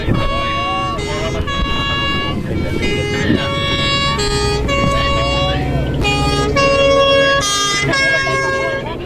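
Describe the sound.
A loud, continuous alarm siren blares in harsh, buzzy tones that jump between pitches roughly every second, with a low rumble and murmuring voices mixed underneath, during a simulated air-accident emergency drill.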